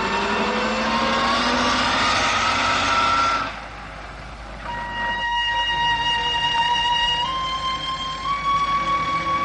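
A bus engine revs up and pulls away, its pitch climbing loudly, then dropping briefly before settling into a steady, rising drone as the bus gathers speed.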